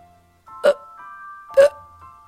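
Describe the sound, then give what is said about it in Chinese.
Two short, gulping burps from a patterned snake that has eaten frogs, about a second apart, fairly loud over a soft sustained musical tone, with no talking. “花蛇打着饱嗝”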